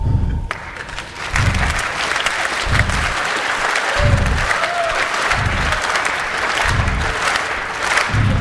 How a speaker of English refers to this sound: And you clap.